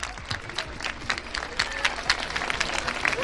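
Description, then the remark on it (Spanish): Students of the Instituto Alfonso II clap steadily outdoors in the centre of Oviedo, next to Campo San Francisco, in support of the fight against childhood cancer; dense overlapping applause with scattered voices mixed in, with an open, airy feel. “Son los aplausos de los alumnos del Instituto Alfonso II en pleno centro de la ciudad, al lado del Campo San Francisco.”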